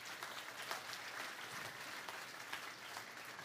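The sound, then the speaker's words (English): A church audience bursts into steady, dense applause as a clap offering to God, many hands clapping together, sustained evenly throughout with no talking over it. “Can we give God a clap offering for that?”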